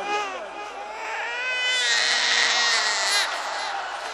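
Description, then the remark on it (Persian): A baby wails loudly and steadily for several seconds, its high, strained cry rising and falling in pitch against a faint murmur of background noise. “الان اگه مادرش اینه اینه آدره گریه میکنه، میگه بچه همو زود بیاری.”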